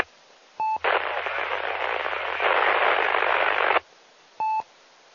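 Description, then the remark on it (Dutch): A radio transmission lost in heavy static: a short tone beep, about three seconds of steady rushing hiss with no clear voice, then another beep as it ends. “En dat was heel diep in de ruis.”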